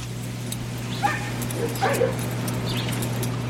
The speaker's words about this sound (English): Welcome to Costa Rica, Central America. And thought you'd enjoy to hear the sounds of Costa Rican dogs barking.